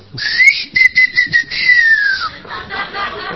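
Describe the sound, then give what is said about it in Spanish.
A person gives one long, clear whistle to call a woman to come outside, holding a steady high note for about two seconds, then sliding slightly downward and stopping, over a faint noisy background. “Va y le toca timbre, espera que la mina salga, le tira una piedra a la chapa, chifla.”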